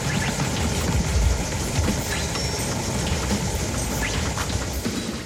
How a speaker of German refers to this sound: Den Sound dazu hat Gitta Gsell selbst gemixt. Aus den Geräuschen der Autowaschanlage